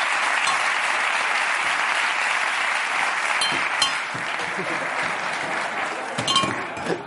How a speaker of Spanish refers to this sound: antes de nada, esto es Revolution on Ice, un show, ¿no? De patinaje, como de una exhibición sensacional que pongo aquí y pido un aplauso para Revolution on Ice